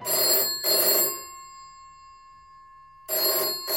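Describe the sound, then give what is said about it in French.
An old-fashioned telephone bell rings in loud, bright bursts, marking the phone calls through which Martin and Coretta first got to know each other: two close rings, a pause filled with a fading metallic hum, then another ring starting. No one speaks. “Martin et Coretta se découvrent d'abord par téléphone.”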